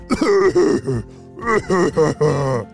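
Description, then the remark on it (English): A voice imitates a garden monster in a story coughing: several loud, gravelly, throaty hacks in quick bursts with a brief pause midway, with no other talk. “The garden monster began to cough, and Tommy bounced into the air as he did.”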